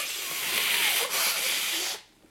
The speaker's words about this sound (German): Ich muss mal gerade Nase putzen.